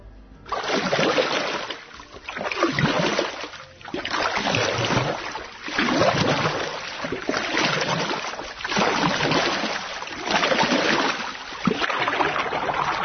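Oars dip and splash through water in a steady rhythm during rowing in Kraljevo, Serbia, each stroke a loud whoosh of churning water, repeating about every two seconds with no voices.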